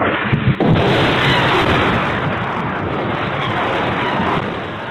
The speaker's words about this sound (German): Nachts hörten wir oft die Explosionen von Gradraketen.